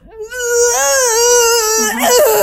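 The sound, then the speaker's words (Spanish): A voice imitates the strangled, terrified cry that came out when trying and failing to scream in panic: a sustained, strained high-pitched wail that wavers and breaks near the end, loud and without words. “Entonces a mí me dio tanto pánico, o sea que literal traté de gritar y no pude gritar. A mí lo que, el sonido que me salió fue...”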